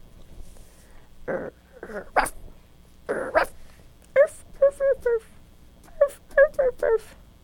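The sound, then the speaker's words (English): A dog whimpers in a run of short, high, wavering whines, fairly loud, coming in quick bursts after a few rougher, breathier vocal sounds. “Does he look like maybe he's a Taco Bell dog?”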